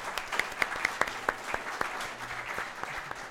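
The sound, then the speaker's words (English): Scattered applause from a small live audience at an Aston Martin dealership in Bristol, individual claps popping out unevenly over a soft clatter of hands, fairly quiet, with no one speaking. “Ladies and gentlemen, give yourself a round of applause.”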